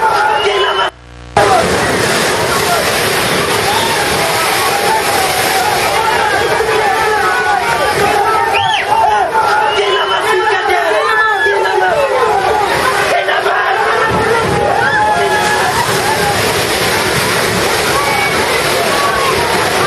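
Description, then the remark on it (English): A crowd of people on a dock shouting and calling out over one another, warning the people in a boat that a wave has pushed, loud and continuous, with steady rushing, sloshing water underneath the whole time. “So what has happened is that wave has just pushed the boat to a place where these guys on the dock here, they're going to be warning them.”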